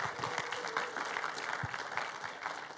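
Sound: audience clapping in welcome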